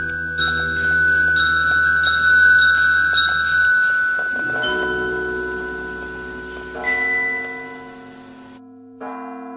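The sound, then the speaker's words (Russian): Church bells peal continuously, several overlapping tones ringing and sustaining with rich resonant overtones, fairly loud, with fresh strikes layering in before the ringing fades near the end. “На Святой, на Фоминой по целым дням трезвонили колокола над городом.”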